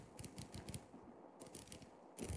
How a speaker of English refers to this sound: and the bezel's funky, and I like that. And it goes both ways. which is weird. Doesn't have the countdown, same kind of like super satisfying tactile clicking feel that the other Pelagos has. Oh, we're getting you can hear it. Hold on.